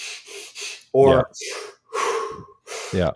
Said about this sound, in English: Is that what we define as superventilation? Hyperventilation. Hyperventilation. Intended hyperventilation.